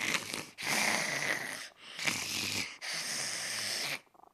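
A cat purrs loudly in rough, rasping bursts that swell with each inhale and exhale, four breathy phases in a steady rhythm, sounding almost like snoring, with no voices.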